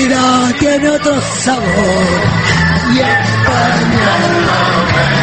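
A loud crowd sings together in rough unison, many voices chanting a melodic tune with shouts and whoops mixed in, steady and boisterous throughout.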